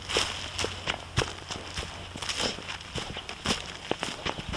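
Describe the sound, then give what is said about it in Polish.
Steady footsteps walking outdoors on a long round to check mist nets, crunchy crisp steps falling in an even rhythm about twice a second over a constant low background hum, with no one speaking. “To zatem ruszamy na obchód.”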